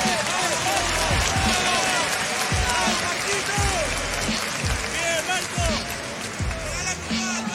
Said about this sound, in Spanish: ¡Fuertes aplausos! ¿Te gustó esta batalla? Si te gustó, dale un fuerte aplauso.